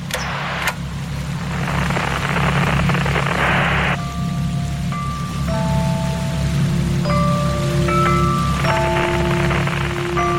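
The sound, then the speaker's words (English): Dense hissing radio static and interference with a steady low hum underneath, while thin whistling tones flicker on and off at shifting pitches through the second half. No voices. “First I hear of it is just a sliver, a thin thread of sound woven into a dense matting of static and interference.”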